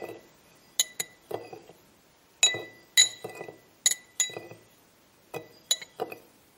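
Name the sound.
stirring water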